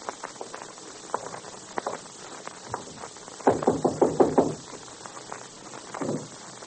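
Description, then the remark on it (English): A quick series of five or six firm knocks on a door on the top floor of a building, following scattered faint taps and shuffling, then a brief muffled thud near the end. “Now listen, we'll knock once.”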